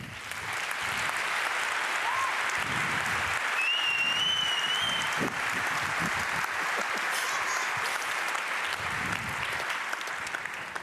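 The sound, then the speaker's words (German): Sustained audience applause as a speaker is introduced for a talk on the NSA investigative committee, a dense, steady wash of many hands clapping at a constant loudness for about eleven seconds, with a few faint whistles rising above it midway. “Und ich würde euch jetzt bitten, einfach mal in die Hände zu klatschen”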